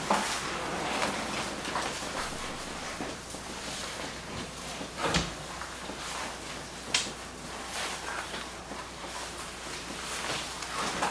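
A window slides shut with a short thump about halfway through, followed by a lighter click, all against a steady, loud hiss of falling rain.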